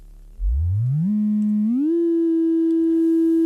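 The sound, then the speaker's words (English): A steady sine wave tone from an electronic analog synthesizer's oscillator sweeps upward in pitch from a low hum, pauses on a plateau, climbs again, then holds one sustained note, loud and alone with no talking. “There's a patching panel where you push pins into, and you can start by just producing a simple oscillator tone. Here's a simple sine wave.”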